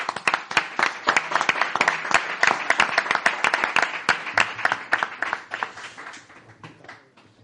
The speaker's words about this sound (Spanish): Vamos a darle un aplauso, ¿no? ¿Os parece?